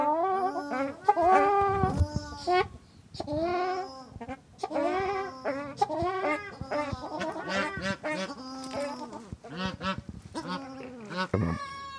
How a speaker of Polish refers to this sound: A to są akurat moje prywatne ptaszki. To są trzy amadynki zebrowane, pospolite zeberki.